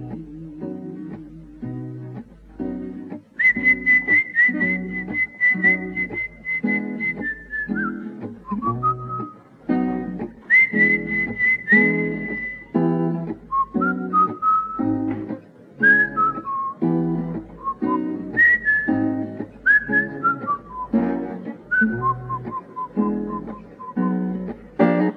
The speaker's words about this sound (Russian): Кто-то свистит.